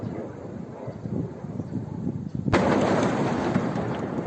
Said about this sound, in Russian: Еще одна. Пошла. Сейчас будет обратно взрыв. Есть, да.